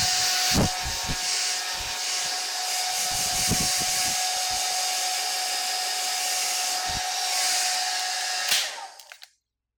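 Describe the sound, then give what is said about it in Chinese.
A hair dryer blows steadily with a constant airy roar and a faint whine as a boy's short hair is dried at an inn, broken by soft rubbing and handling bumps, then shuts off and winds down near the end. “好了，头发已经完全干了。”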